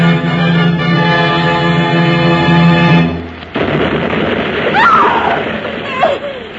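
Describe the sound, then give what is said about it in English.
A sustained tonal drone cuts off into a sudden blast of rockets, followed by rumbling, crackling noise and a couple of rising whistles as more distress rockets go up and burst, fired because a ship has gone ashore in the bay. “What was that explosion? What happened, Mrs. Danvers? They're shooting up rockets.”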